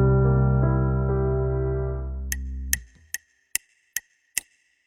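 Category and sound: household object, clock ticking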